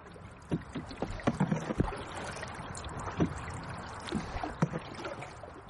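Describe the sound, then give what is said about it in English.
A tour boat moves along the Blackwater River, between Lismore and Capoquin, with a steady wash of water and irregular splashes and slaps against the hull. No voices are heard. “runs boat tours of the Blackwater River, mostly between Lismore and Capoquin.”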